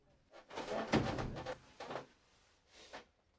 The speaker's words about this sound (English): Frankie can't take any more and leaves the room. Pete continues to undress his son. He doesn't notice Frankie leave until he slams the door.